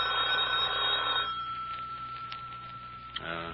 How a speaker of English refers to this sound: Phone's ringing.